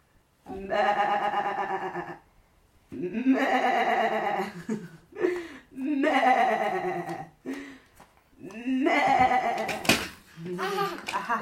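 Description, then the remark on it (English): A sheep bleats loudly, a series of long, quavering baas with a few short ones in between, repeating across the whole stretch with brief pauses. “what's that? Is that a sheep? Is it a sheep?”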